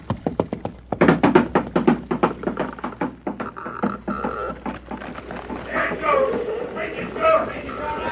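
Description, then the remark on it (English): The hooves of a horse named Silver, carrying one man, clatter across a wooden bridge in a fast run of loud, hollow knocks that thin out after a few seconds, giving way to a creaking, rumbling wash as the bridge falls down. “I hope the weight of one man and horse is enough to do it.”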